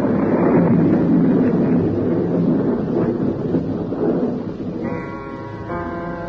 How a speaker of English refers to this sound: The wind came. The storm was beginning. Already I knew it would be raining in the estuary.